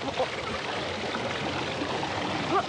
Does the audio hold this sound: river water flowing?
yes